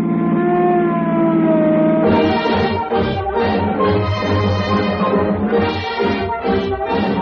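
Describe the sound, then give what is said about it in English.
Police car sirens shriek with loud, sustained wailing tones as police cars speed over roads chasing escaped convicts, then a harsh roaring rush of noise joins them and surges in repeated bursts for several seconds, intense. “On tonight's program, you will hear speeding automobiles, roaring engines, the shriek of sirens as police cars tear over the roads on the trail of fleeing convicts.”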